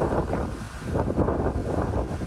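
Strong, steady wind from Hurricane Hillary, a Category 2 storm, roars and buffets without a break, a dense low rumble with gusty surges, battering the tourist area of Cabo San Lucas on Mexico's Baja California Peninsula. No one speaks.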